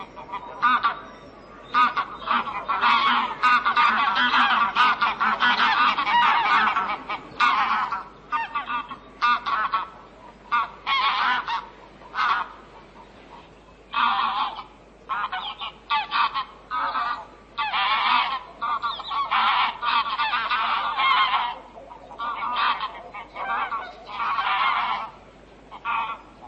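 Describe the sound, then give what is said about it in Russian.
A flock of wild geese honking loudly and continuously, many overlapping calls in irregular bursts that briefly pause and resume, dense. “Что за дивную песнь пели в тот год дикие гуси.”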